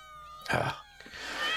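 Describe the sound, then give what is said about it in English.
A cat lets out a drawn-out, wavering meow, followed by a second higher, strained yowl, both fairly loud with no one talking. “Coming back here and dealing with, holy crap, hundreds of these damn creepy cats”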